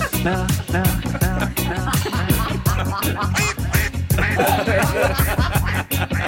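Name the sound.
duck quacking imitation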